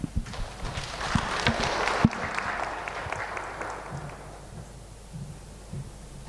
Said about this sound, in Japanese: 拍手を持って向かいましょう。